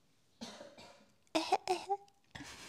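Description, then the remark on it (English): A run of about five rough, breathy coughs in quick bursts from someone who is sick, two softer ones, then louder, harsher hacks with a voiced, rasping tail, with no talking. “I have to cough.”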